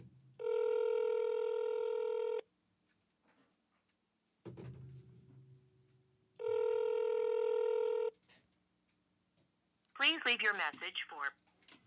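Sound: phone dialing on speakerphone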